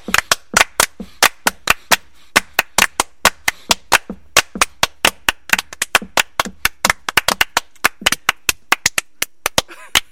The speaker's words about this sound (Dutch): Clapping music. We waren met z'n drieën aan het klappen. Clapping music, ja, dames en heren.